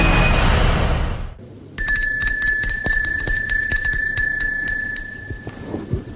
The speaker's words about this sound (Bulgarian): Това е камбаната, на която пише България. Малко шеговито, но вие биете камбаната непрекъснато, господин Марков.